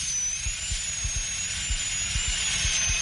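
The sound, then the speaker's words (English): A dentist's drill whines steadily at a high pitch for the whole stretch, continuous, as it drills out an old filling from a tooth, with soft low thumps pulsing irregularly underneath and no talking. “I'm drilling out the old filling now.”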